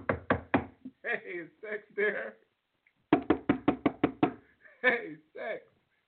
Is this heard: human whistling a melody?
no